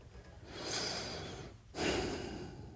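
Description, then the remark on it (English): Two long, airy breaths through the nose, an inhale then an exhale, each a steady rushing hiss lasting about a second, with a brief pause between. No one speaks. “I can't even like breathe through my nose because it's so loud.”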